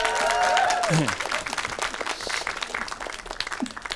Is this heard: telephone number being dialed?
no